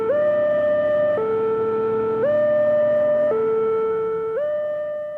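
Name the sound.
ambulance siren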